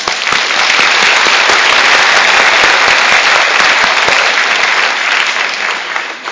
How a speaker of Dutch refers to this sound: Wat een geweldig kinderkoor zijn jullie, zeg. Ik wil niet veel zeggen, maar normaal klappen we altijd aan het eind van de dienst. Maar we gaan gewoon klappen.